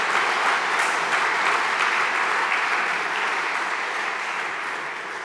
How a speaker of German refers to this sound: Herzliches Dankeschön an euch alle. Da darf man ruhig mal klatschen.